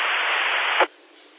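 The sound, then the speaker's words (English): During a radio check from Asheville, North Carolina, a burst of loud, hissing radio static fills the band for under a second, then cuts off abruptly to a faint, low background hiss, like a squelch tail closing after a transmission. “I think I heard someone trying to get back, but I heard nothing but static.”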